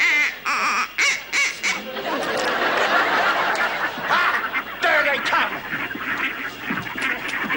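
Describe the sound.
A person at a marsh imitates a goose, letting out a rapid string of loud, nasal honks over a busy, noisy background, with some chatter mixed in.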